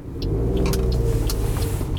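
A car engine rumbles steadily at an auto repair shop, a deep, even drone, with a few faint high clicks scattered over it. No one speaks.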